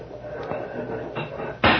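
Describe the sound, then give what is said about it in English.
Truck back doors are opened: faint rustling and small knocks, then a sudden loud clunking scrape near the end that carries through to the close. “Let's open the back doors on the truck.”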